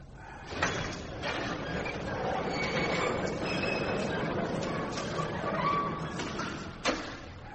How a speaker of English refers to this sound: Open them big doors, will you? Yeah, okay.